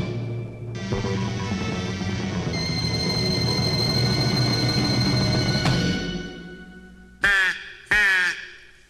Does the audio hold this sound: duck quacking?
yes